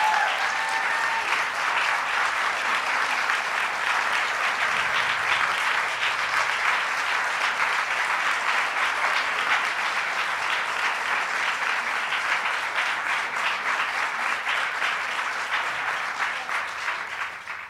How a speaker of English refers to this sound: Sarah Weddington, who argued Roe v. Wade, here today on the 46th anniversary of Roe v. Wade. Let's give Sarah a big round of applause.